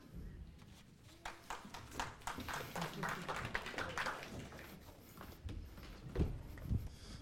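A round of applause for a speaker at a church service, many hands clapping in a dense, steady patter for several seconds at moderate loudness, with a few heavier claps near the end and no voices.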